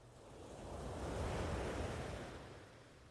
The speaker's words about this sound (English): Focus on the sound of the waves now.